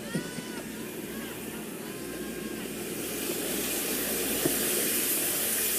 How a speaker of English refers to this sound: needs to take a hot shower.